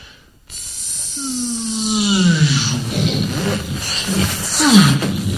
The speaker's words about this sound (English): But when a spaceship in one of these shows takes off, it sounds something like this.